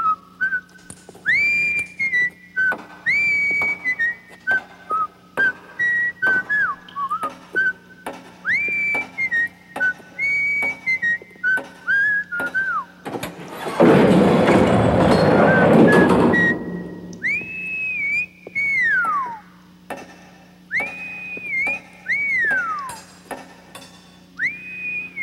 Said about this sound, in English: If you think I'm exaggerating, or that my Andy of Mayberry parallel is stretching things, listen to what the sheriff whistles as he approaches a murder suspect's jail cell.